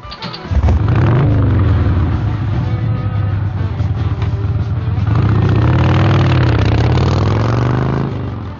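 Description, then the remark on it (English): A motorcycle engine catches and starts, then settles into a loud, steady idle, its low rumble wavering slightly in pitch as it runs for several seconds. “So why don't you just go in there and dress her up for a trip to the mall and let Daddy start his motorcycle, okay?”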